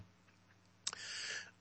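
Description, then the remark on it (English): A single brief throat clearing: a sharp catch followed by a raspy, breathy rasp lasting about half a second, with no talking around it. “Excuse me, I had to clear my throat there.”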